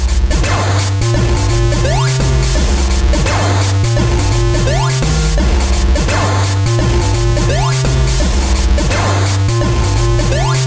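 A dense, loud instrumental beat played on air during a show, with a heavy repeating bass line and steady drum hits, layered with bright, busy synth textures that stay constant throughout, with no one talking.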